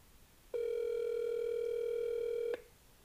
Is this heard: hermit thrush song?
no